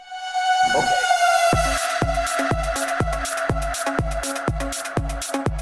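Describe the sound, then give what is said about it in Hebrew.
A loud, steady siren-like wail holds one high pitch throughout, and after a moment a punchy, evenly spaced thumping beat starts underneath it and carries on to the end. “סירנה בבקשה.”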